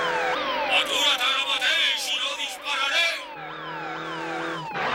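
Police sirens from two flying police cars chasing a motorbike wail at once, their repeating sweeping tones overlapping loudly and without pause over a dense rush of background noise, ending with a brief sharp burst.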